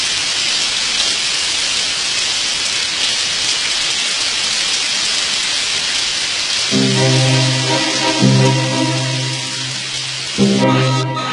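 Steady, dense acid rain hisses continuously and loudly outside, with no voices. Partway through, a low droning tone rises beneath the downpour, fades briefly, then returns near the end.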